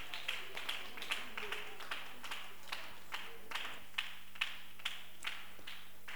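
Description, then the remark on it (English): A group of people clapping together in a steady, even rhythm, sharp claps about two or three per second over a continuous bed of scattered applause, lasting several seconds with no talking. “Let's clap for him.”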